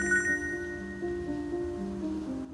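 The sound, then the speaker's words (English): A steady electronic ringing tone hums on a phone line, fairly quiet and continuous, a call from a mobile phone ringing out at the other end after a number is dialled, before anyone picks up. “She picks up her mobile phone and dials a number.”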